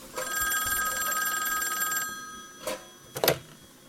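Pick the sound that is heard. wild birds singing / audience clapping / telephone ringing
telephone ringing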